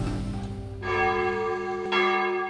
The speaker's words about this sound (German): So idyllisch klingt es mittags auf der Schillerpromenade. Die kräftigen Glocken der Genezareth-Kirche sind der einzige Lärm weit und breit.